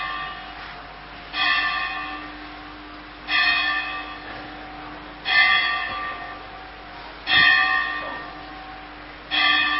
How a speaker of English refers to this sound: For whom does the bell... What is that?